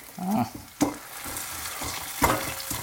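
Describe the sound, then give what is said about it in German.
M&M's being ground in a granite stone mortar: gritty scraping and crunching, punctuated by two sharp cracks as the pestle strikes, with no voices. “So, ich mörser jetzt M&M's. Das wird auch richtig schön laut.”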